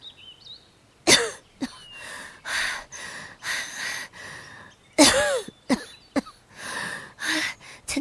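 Two harsh, explosive coughing fits, each followed by a run of strained, wheezy breaths, with ragged rasping gasps between them and no speech.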